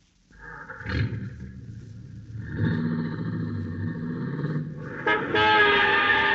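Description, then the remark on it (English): A car engine starts up and revs, its rumble building as the vehicle pulls away, then a loud, sustained horn blares near the end. No voices are heard. “And as you hurry downstairs to your own car, you know that if two and two make four, your first job is to stop a murder.”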